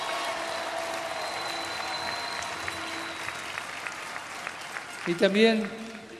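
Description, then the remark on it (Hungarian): Sustained audience applause for the young indigenous people of America who first set out for the world meeting, a dense steady patter of many hands clapping for several seconds, with a voice briefly rising over it near the end. “Egy nagy tapsot nekik, hangosan.”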